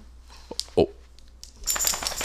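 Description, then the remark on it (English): A female dog shaking itself off: a brief burst of flapping, rustling noise with bright metallic jingling like collar tags, preceded by a soft thump. “That's a good shake.”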